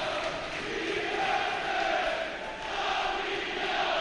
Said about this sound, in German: Ja, und die Westtribüne steht mal auf und applaudiert. Auch bei 5.871 Leuten geht das hier im Stadion.